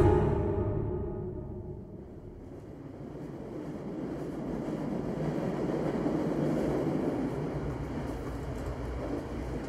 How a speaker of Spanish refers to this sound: Voy viajando en un ferrocarril de vía estrecha, un FEBE, de esos que ya quedan en pocas regiones de España, y voy camino de Nava, que es conocida como la capital de la sidra, y está localizada en el corazón de Asturias